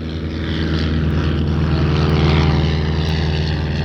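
A turboprop airplane engine drones loudly and steadily, its propeller producing a dense, throbbing hum with a constant rumble throughout, with no voices.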